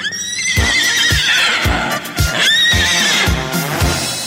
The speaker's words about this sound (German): Da steht ein Pferd auf dem Flur, ein echtes Pferd auf dem Flur. Ja, ja, ein Pferd auf dem Flur.